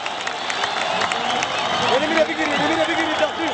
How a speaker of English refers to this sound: The sight of the player with the carcass galloping furiously ahead of the trailing pack is guaranteed to trigger a roar of applause from the audience.